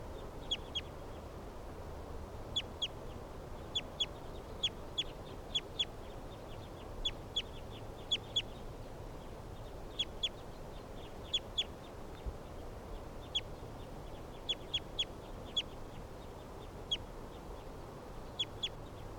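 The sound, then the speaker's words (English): Several captive birds call back and forth in short, sharp bursts, often in quick pairs or clusters, spread across the whole stretch over a steady low background hum. “With a lot of the other captives responding here.”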